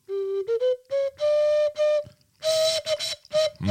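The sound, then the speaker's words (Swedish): A short melody on an ocarina: a string of pure, breathy whistle-like notes stepping upward, then held, with brief gaps between phrases and a final sliding, airy flourish. “Jag håller på att spela på mikrofonen.”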